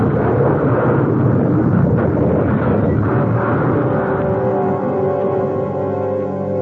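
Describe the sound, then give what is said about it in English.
A car crash after a tire blows: the car slews toward the road edge, hits a rock and rolls, a loud, continuous roar of grinding and rumbling with scattered harsh impacts, heavy throughout, easing slightly toward the end. No one speaks. “A tire blew, and the car slewed, sliding toward the road edge. Then we hit a rock and went rolling.”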